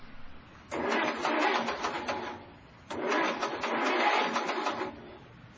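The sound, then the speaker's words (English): A car engine in New Jersey cranks twice without catching, each rapid, rhythmic grinding attempt lasting a couple of seconds with a short pause between, moderately loud; the engine is broken. “I think my engine is shot. This is not good.”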